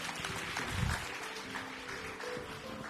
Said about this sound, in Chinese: 好，荣耀归给耶稣。来，我们一起鼓掌，把荣耀归给耶稣。谢谢。